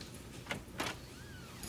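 door opening

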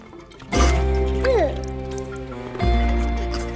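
water

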